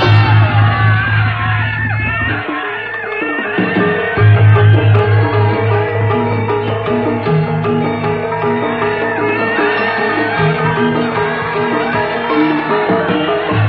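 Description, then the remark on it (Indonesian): A loud, sustained roar of many men shouting and yelling together in a battle charge, the troops of Pangeran Pekik in open battle between Giri and Surabaya, with a steady low rumble beneath and a brief dip before the clamor surges again. “Peperangan terbuka antara Giri dan Surabaya tak bisa terhindarkan lagi.”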